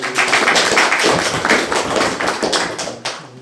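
Audience applause for a participant: a dense, steady wash of many hands clapping for a few seconds, fairly loud throughout before tapering slightly at the end, with no voices over it.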